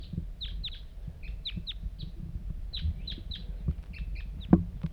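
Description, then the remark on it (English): A single wild bird nearby repeats short, high-pitched descending chirps in quick bursts over a steady low rumble, with one sharp knock near the end. “One lone bird.”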